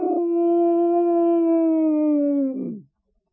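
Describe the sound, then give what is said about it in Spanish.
A single long, wolf-like howl holds a steady, slightly falling pitch for about two and a half seconds, then drops away. It is loud and stands alone with no talking. “Cuando él apareció fue a por ellos, como el lobo. ¡Raú!”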